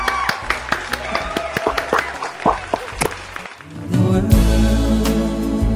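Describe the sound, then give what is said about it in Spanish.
A short burst of scattered, sharp hand clapping as a farewell at the end of the radio show Turismo Sin Límites lasts a few seconds before fading as a swell of music with a low, steady tone takes over. “Como creemos en el turismo, vivimos por el turismo, nos despedimos con un aplauso.”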